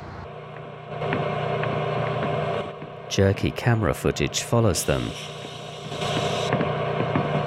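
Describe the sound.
A steady, low engine drone with a faint whine fills the top deck of a double-decker 450 bus, continuing throughout while a man briefly speaks over it in the middle.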